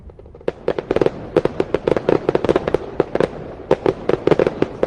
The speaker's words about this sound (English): Well, fireworks festivities all over the country. Happy birthday, America.